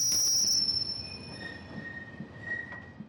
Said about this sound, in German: Aber sie werden versuchen, in Verhandlungen mit der SBB möglichst viel für die Anwohner herauszuholen, dass diese möglichst wenig von den zusätzlichen Lastwagenfahrten merken und vom Pfeifen der Güterwagen möglichst wenig hören.